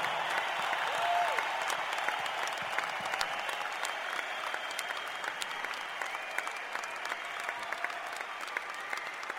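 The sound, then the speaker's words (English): Sustained applause from a sizable crowd at a live show, given for the show's crew, steady dense clapping throughout with a faint murmur of voices beneath, heard from within the audience at moderate loudness. “So we need a big round of applause for all the orange people.”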